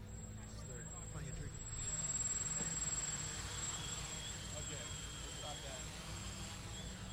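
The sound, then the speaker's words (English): A drone without bumpers hovers with a steady, buzzing motor whine and layered low hum, swelling a little louder after the first couple of seconds and holding constant, with a thin high whistle above. “So let's see it fly. I want to watch it fly.”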